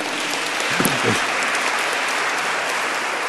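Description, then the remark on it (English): A church audience claps steadily, a dense, even patter of many hands that stays loud for the whole stretch, with a brief murmur of voices rising under it early on. “Clap, clap, clap, clap, more clap.”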